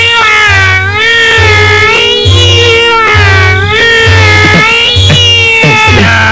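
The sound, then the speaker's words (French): A recording of a female cat's cry: it meows repeatedly in long, wavering, rising-and-falling cries, loud and insistent, over a steady low pulsing hum that throbs in regular beats underneath. “Bon, d'accord, mais on va la trouver comment, la chatte à pattes? Bah, il faut se laisser guider ou par les cris particulières.”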